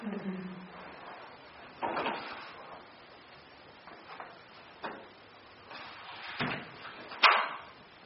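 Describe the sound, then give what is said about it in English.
Several odd, dull knocks land at irregular intervals, each one a short hollow thud, with the last one sharper and louder than the rest. “Some very odd noise just happened. It's like a knock.”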